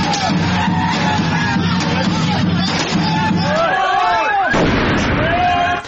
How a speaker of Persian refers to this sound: اما در دهه‌های اخیر هیجان این شادمانی با صدای گاه و بیگاه انفجار ترقه‌های دستساز و مواد محترقه در کوچه و خیابان‌ها گره خورده و کام بسیاری از خانواده‌های ایرانی را تلخ کرده.